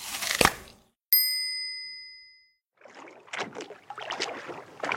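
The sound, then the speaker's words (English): A sharp knock and a ringing bell ding that fades away, followed by a boat being rowed, with a run of uneven water splashes and oar strokes. No one speaks. “The goat rows in the sun.”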